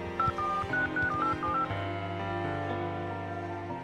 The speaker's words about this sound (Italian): Irina prende il telefono e compone un numero.